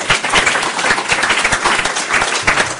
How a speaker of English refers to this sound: We will applaud you before we interrogate you.